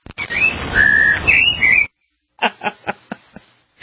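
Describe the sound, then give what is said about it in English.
Cartoonish bird tweeting: warbling whistled chirps over a dense buzzy bed for about two seconds, then a brief pause and a quick run of five or six short, loud chirps. “What happened to those birds? Where are they? They're flying around somewhere?”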